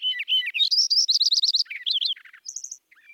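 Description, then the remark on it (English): A sparrow sings a quick, bright song of rapid trills and chirps, loud, with no other sounds around it. “I didn't find white-crowned sparrows, but I was looking at swamp sparrows and a Lincoln sparrow.”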